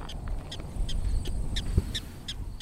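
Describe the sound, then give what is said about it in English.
A prairie dog gives a rapid series of sharp, high chirping barks, about eight or nine in steady rhythm, heard over a low rumble of wind or outdoor noise. “Here's our barking prairie dog.”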